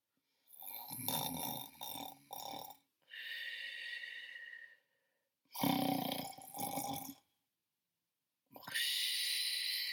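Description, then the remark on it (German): Loud snoring of the sleeping story character Schneiderlein Nadelfein, in slow, repeated breaths: rough, rattling inhales alternate with airy, hissing exhales, separated by brief pauses, with no talking. “Und schon hörte man wieder das laute Schnarchen des Schneiderlein Nadelfein.”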